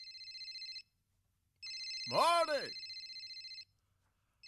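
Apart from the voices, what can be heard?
telephone ringing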